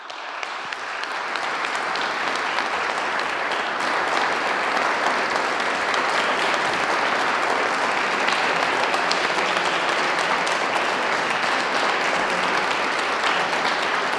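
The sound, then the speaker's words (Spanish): Sustained applause from a large audience, a dense steady wash of clapping that starts abruptly and holds at an even, fairly loud level throughout without fading, closing an award ceremony. “Señoras y señores, con este aplauso damos por finalizado el presente acto.”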